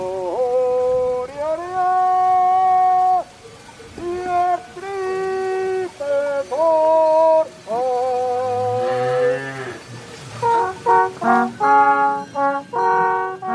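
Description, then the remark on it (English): A slow Swiss Ronds des Vaches cow-herding melody played on a long alphorn reaching from the lips to the ground: long, sustained, mellow notes that rise and fall, then quicker, shorter, higher phrases toward the end. No voices. “Like the Ronds des Vaches melodies, cow herding music that Swiss herders played as they drove their cattle down from the mountains on long horns that went from their lips all the way to the ground.”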